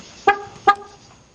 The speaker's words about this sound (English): Sign of a great car honk.